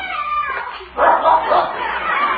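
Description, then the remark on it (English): A dog on a trail behind a garage barks in a short run of quick, yappy bursts, moderately loud, over a steady background hiss. “That dog is real smart.”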